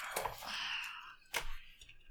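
Scratchy rubbing of a pencil eraser on paper: a sustained gritty scrub followed by a brief sharper swipe, with no voices.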